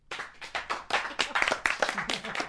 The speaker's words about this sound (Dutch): We hebben ervan genoten. Metropoolorkest cello's. Geef ze nog een keer een applaus.